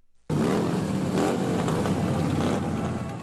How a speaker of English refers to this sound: Motorcyclists have clogged the streets of the nation's capital.